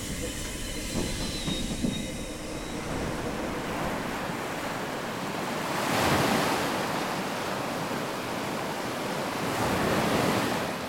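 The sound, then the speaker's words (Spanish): Steady ocean surf rushes continuously onto the shore, with broad swells building around the middle and again near the end, heard alone without any voices. “Puedes sentir la arena suave bajo tus pies y oír el sonido de las olas.”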